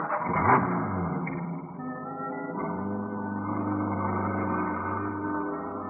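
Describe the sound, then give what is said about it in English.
A truck engine rumbles steadily as it drives straight down a street, its low drone shifting pitch as if changing gears partway through, with no voices over it. “I drove as she directed. We pulled up behind a row of stores.”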